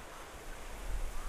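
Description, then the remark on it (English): A faint, steady wash of rushing water from the Ottawa River in the distance, a continuous soft roar with a low rumble and no distinct events or voices. “Do you hear the Ottawa River in the distance?”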